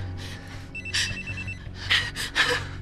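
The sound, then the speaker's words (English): A telephone, held out by a man to be answered, rings in repeated electronic bursts with a bright, warbling tone, sounding over a low steady hum. “Jack holds out the ringing phone.”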